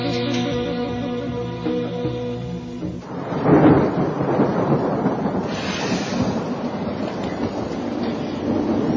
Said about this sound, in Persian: بارون داری خودتو میشوری یا میخوای ما را سرما بدی؟